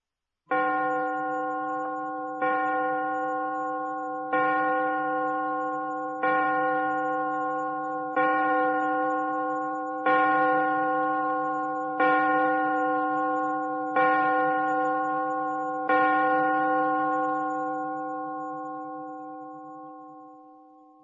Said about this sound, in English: Look at the clock. Listen to the clock.